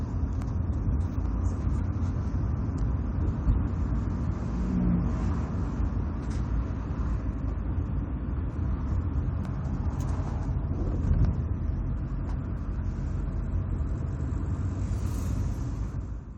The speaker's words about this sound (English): The car slows down as it goes over a speed bump, marked by yellow painted stripes on the road. It speeds up as it climbs a small hill where the road is marked by a few potholes and cracks in the pavement.